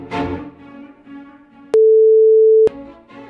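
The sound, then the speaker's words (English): A single loud, steady censor bleep lasting about a second abruptly cuts into a man's speech as he gives his address, with talking resuming right after the tone stops. “Yeah, would you like us to bleep that out?”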